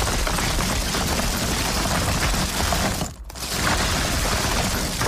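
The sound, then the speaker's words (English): Continuous crinkly rustling and crackling as hands rummage through a tub of wrapped Celebrations chocolates, steady and fairly loud, with a brief pause about two-thirds of the way through before it resumes. “Celebrations, I'll have a rummage.”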